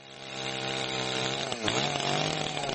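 Chainsaws of forest workers in Istočni Drvar on Klekovača mountain, Bosnia and Herzegovina, drone with a steady, buzzing engine whine that briefly dips and then revs back up midway, staying loud throughout with no voices.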